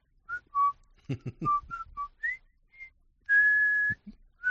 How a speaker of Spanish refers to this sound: Oye, han llegado silbidos del puente sobre el río Cuaye, ¿vea? O sea, que la gente no se sabe cómo es la musiquita.